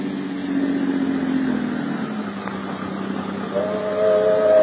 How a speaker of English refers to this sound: But there's a train